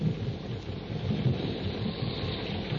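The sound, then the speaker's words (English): A steady roar of heavy rain pours down with a deep, continuous rumble of thunder underneath, dense and unbroken for the whole stretch, with no voices. A jungle storm breaks by a tributary of the Ubangi River in a Tarzan story. “Before Tarzan and his friends are able to cross the river, a jungle storm breaks.”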